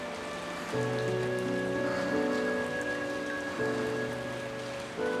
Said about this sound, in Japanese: 誰もいない古い温室、束の間の通り雨。